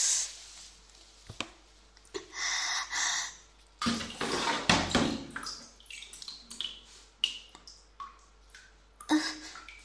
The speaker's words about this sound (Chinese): 这个水龙头有点漏水。